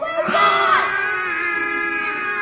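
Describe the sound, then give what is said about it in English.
A group of voices yells together in a loud, sustained burst, overlapping shouts holding for a couple of seconds with a crowd-like roar, energetic, no clear words. “The disciples were all yelling. Everybody yell.”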